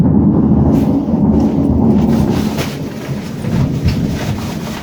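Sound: thunder rumbling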